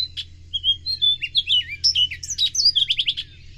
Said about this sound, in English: he's listened and recorded the single notes and the dawn chorus from Virginia to California to complete his library of bird song.